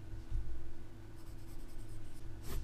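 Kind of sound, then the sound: tool, writing on paper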